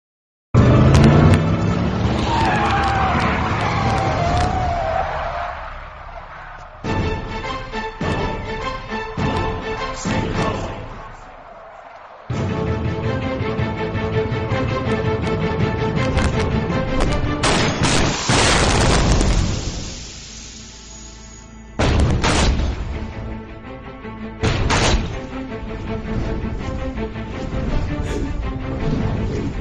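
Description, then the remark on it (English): Loud, dense AI-generated film car-chase soundtrack, in which an Indian policeman gets out of his car and shoots another car, which rolls over; roaring engines, sharp gunshot-like bangs and heavy crashing impacts, cut into abrupt segments with a rising whoosh midway; no one speaks. “They prompted the AI to do an Indian policeman, gets out of his car, shoots another car. The car rolls over the Indian policeman, and the policeman captures the criminal from the rolling car to arrest him.”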